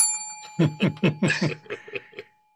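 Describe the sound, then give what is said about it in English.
A bell rings, its clear tone lingering and fading under a burst of rhythmic chuckling that tapers off toward the end. “Again, you can ring the bell if you want again, too.”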